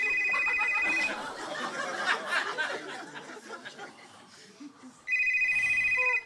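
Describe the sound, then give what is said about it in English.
A telephone rings in two loud, steady electronic trills, one at the start and another near the end, with a stretch of audience laughter and murmuring in between. “Getting a phone call.”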